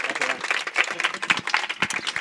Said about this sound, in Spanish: Un aplauso, qué buena iniciativa.